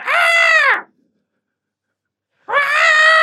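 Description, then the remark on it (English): A person imitates an ape screeching as it is held by the arms with its legs kicking: two loud, sustained shrieks, strained and high-pitched, each lasting under a second and separated by a long pause of silence. “His legs are kicking, though, and he's screeching.”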